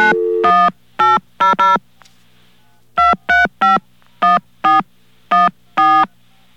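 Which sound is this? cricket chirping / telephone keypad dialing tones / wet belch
telephone keypad dialing tones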